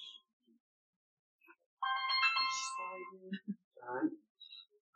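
A mobile phone rings with a bright, melodic electronic ringtone that plays a short tune for about a second, fairly loud, followed by a few brief murmured sounds.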